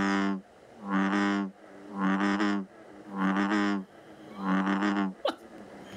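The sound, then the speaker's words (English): An amphibian call repeated five times in a steady rhythm, each a loud, buzzy, low-pitched croak lasting about half a second, with short pauses between and a sharp click near the end. “It is some form of an animal.”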